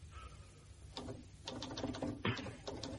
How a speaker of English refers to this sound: What are you typing? Reports.